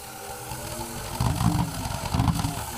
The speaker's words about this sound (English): A pulse engine is an engine with no moving parts, built entirely from the physical principle of thermodynamics, if I understand it correctly.